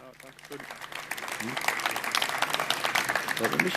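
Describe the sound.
An audience breaks into applause to welcome the speaker of a talk about Freifunk, dense overlapping clapping that swells after a brief moment and holds steady, with a faint voice heard at the start.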